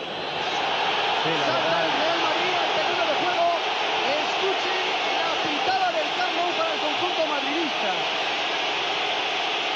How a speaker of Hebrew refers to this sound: שמעתם, זו קבלת הפנים שפיגו מקבל בקמפנו, זה היה משהו בלתי נשכח, כן? שריקות הבוז, כללות, חפצים שנזרקים, הרבה הרבה מאוד שלטים נגדו